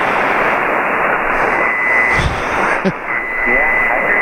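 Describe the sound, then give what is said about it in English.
A radio receiver tuned to 3.872 on the 80-meter band, receiving on a new antenna, hisses with steady static while a faint, garbled voice transmission and a brief tuning whistle come through the noise, loud and continuous throughout. “Well, it sounds like your new antenna's working.”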